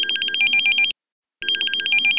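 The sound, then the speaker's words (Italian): An alarm clock rings in two loud bursts of rapid, high-pitched trilling, separated by a brief silence, with no voices present. “E senza curarsi della sveglia, si volta dall'altra parte e richiude gli occhi, mentre la fastidiosa sveglia continua a suonare.”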